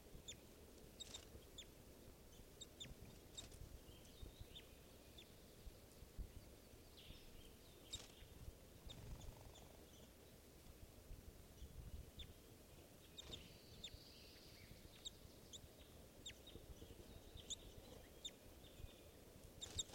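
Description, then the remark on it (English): A flock of birds chitters steadily as they try to go down to the water, with many short, overlapping high calls over a constant low rumble of outdoor background noise. “Birds are chittering, trying to go down to the water.”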